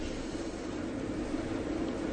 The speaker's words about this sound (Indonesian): afwan, kayaknya barusan Ana nggak dengar, soalnya kita lagi ribut sama AC di sini. Mungkin bisa diulangin pertanyaannya.